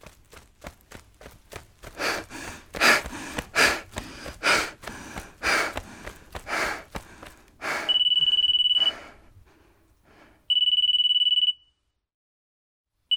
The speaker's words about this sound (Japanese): 電話は姉貴からだった。でも俺は電話には出なかった。いや、出る勇気がなかった。だから俺は携帯の電源を切った。